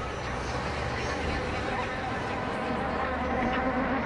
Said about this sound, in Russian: Лес снова загудел, зажужжал, затрещал, зафыркал. Снова к лиловому куполу ринулись полчища мух и муравьев.